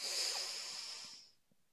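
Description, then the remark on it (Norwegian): A long, deep breath drawn in through the nose, a steady airy hiss lasting over a second before fading to near silence. Fairly quiet, with no talking. “Pust godt inn med nesa.”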